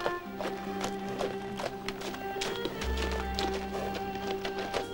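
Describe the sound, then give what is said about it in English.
A white horse, ridden by Tom, cantering up towards Dalkut Mill, its hooves clip-clopping in a quick, uneven rhythm of sharp, loud knocks, over a steady humming tonal background. “A white horse canters up towards Dalkut Mill.”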